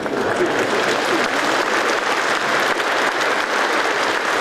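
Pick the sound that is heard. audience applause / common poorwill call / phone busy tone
audience applause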